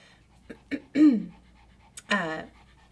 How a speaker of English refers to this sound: can you hear my puppy heavy breathing? She's like so excited over here.